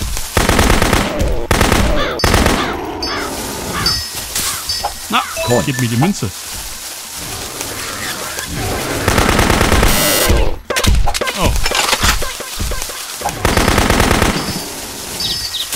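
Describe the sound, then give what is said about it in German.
Loud, rapid bursts of video game gunfire rattle on and off through the whole stretch, like automatic weapon fire, while a man talks over the shooting. “Ist auf jeden Fall etwas einfacher mit dieser Gun.”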